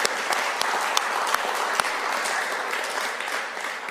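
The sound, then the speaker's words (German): Steady audience applause of thanks for the people who serve fills the whole stretch, a dense, even wash of many hands clapping at a loud, constant level with occasional sharper individual claps standing out, and no talking over it. “Einen herzlichen Applaus für euch, die ihr uns dient.”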